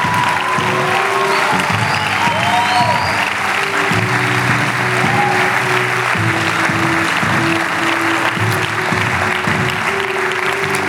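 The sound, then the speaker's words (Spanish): Loud, sustained applause from a standing audience clapping for Jesus, a dense and steady wash of many hands clapping from start to finish, with held musical notes sounding softly underneath. “Vamos, fuerte el aplauso a Jesús.”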